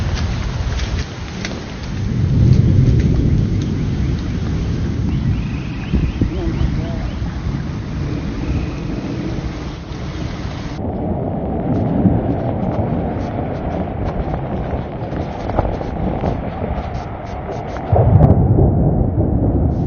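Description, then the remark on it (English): Water rushes steadily through a yard and under a house, flowing from D.R. Horton construction next door, in a continuous, loud, hissing roar, with deep rumbling surges swelling now and then over about twenty seconds. “Water rushing down in through our yard, under our house, from the construction next door”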